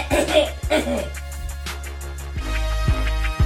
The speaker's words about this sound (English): Let me clear my throat before I read out loud, y'all.